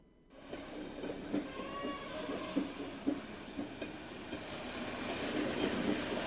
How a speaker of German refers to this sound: Der Zug, der hier einfährt, ist ein ganz besonderer. Es ist der Blaue Pfeil. Der weniger bekannte Bruder vom Roten Pfeil.